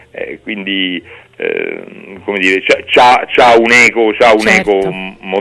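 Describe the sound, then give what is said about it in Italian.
A voice sings an Irish folk song in loud, melodic phrases, with the sustained notes rising and falling over a few seconds. “questa canzone di … è bella, obiettivamente, è bella, è fatta bene, c'ha un ottimo ritornello”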